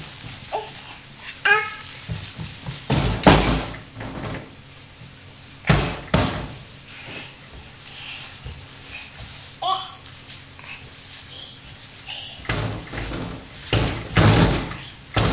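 A door is banged and slammed repeatedly, loud, with sharp heavy thuds in irregular bursts, while a child babbles and voices murmur in the background.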